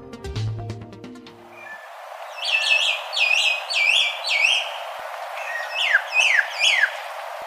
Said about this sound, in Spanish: Este es el arrendajo escarlata. Una ave solitaria que tiene el pico blanco verdoso. Su plumaje es completamente negro, exceptuando una mancha de rojo intenso que luce en el dorso. Mide hasta 30 centímetros de altura y es relativamente común